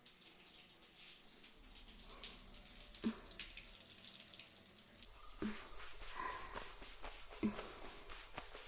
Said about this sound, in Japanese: はい、お疲れ様でした。それでは泡を流していきますね。